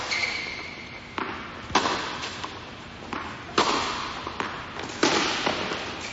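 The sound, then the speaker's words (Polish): A tennis ball being struck and bouncing, sharp pops arriving in an irregular rally rhythm, about seven hits over a few seconds against a steady background hiss, with no talking. “Inna dyscyplina sportu. Tenis. Dobrze, tenis ziemny.”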